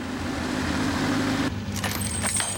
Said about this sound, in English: A small green van drives up to the laundry gates. The gate is locked behind the van as it drives in.